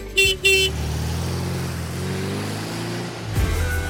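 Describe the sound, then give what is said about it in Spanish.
Two quick beeps of a blue Volkswagen Beetle horn, short and bright, followed by the low, steady rumble of its engine running for a few seconds, with a slight rev near the end. “con ese sonido entrañable, con esas memorias que sin duda regresan a mi mente. pero que no hubieran sido igual si no hubiéramos tenido ese bochito azul y si no hubiéramos tenido ese recuerdo de ese pajarito azul.”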